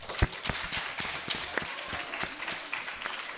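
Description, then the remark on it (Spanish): A short burst of applause from a small group, with scattered, uneven claps at a steady moderate volume and no one speaking. “Vale, nada menos que un punto. Un aplauso.”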